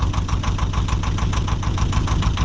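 A canal barge engine runs in Birmingham, its steady, rumbling low throb pulsing in a quick, even rhythm with a faint knocking beat, continuous and fairly loud throughout with no voices.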